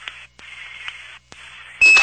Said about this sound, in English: Right, I just noticed that I can hear those RTCs coming through on a normal voice. What's it sound like, Bill? A little squeak.